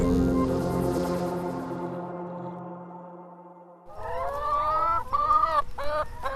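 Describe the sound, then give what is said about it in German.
A short musical tone fades out, then a flock of 300 laying hens eating grasses and clover on a 9-hectare experimental pasture near Karlau in Lausitz breaks into busy, overlapping, loud clucking and cackling, with no one speaking. “Es gackert ordentlich auf der 9 Hektar großen Versuchsfläche bei Karlau in der Lausitz. 300 Legehennen fressen hier Gräser und Klee und sind Teil eines Experiments.”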